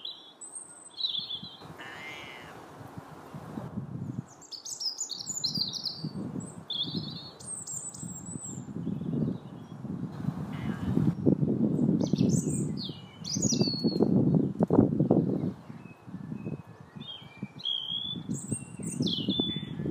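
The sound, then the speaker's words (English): Birdsong recording fills the whole stretch, including the voice of a bird called Ginge: bright, high chirps and warbling phrases from several birds, some calls sharp and squawky, over a steady low rumble of background noise. “So here's Natalie's bird song, and see if you can make out the voice of Ginge.”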